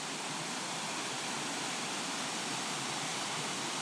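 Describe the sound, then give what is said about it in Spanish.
A mountain river, the Bidasoa, rushes downhill with its tributaries at the start of the Navarrese Pyrenees in a steady, powerful roar of churning water, loud and unbroken from start to finish, with no voices or other sounds. “Esto es principio del Pirineo ya, Pirineo Navarro, con lo cual el agua baja de la montaña, el Bidasoa baja y algún que otro afluente de forma potente.”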